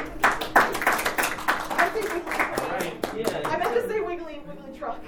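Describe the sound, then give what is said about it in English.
A brief round of applause from a small group, dense clapping for a few seconds that thins out as voices begin talking over the tail end. “You both survived your round of applause.”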